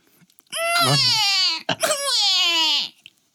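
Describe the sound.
A voice mimics a wailing baby in two long, strained, bleating cries with a goat-like quaver, loud, separated by a brief catch of breath.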